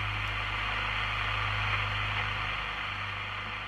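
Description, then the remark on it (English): Steady AM radio static hisses and crackles on an empty frequency toward the top end of the dial, where stations 1290 CJBK and 1410 CKSL used to be received, with a low constant hum underneath, unchanging for the whole stretch and with no voices. “There's nothing else toward the top end of the dial.”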